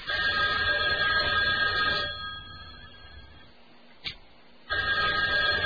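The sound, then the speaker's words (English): A telephone rings twice down a phone line during a call to an Italian restaurant in Brooklyn, each ring a bright, buzzy electronic burst separated by a quiet pause, with a brief click in the gap. “You got a phone ring?”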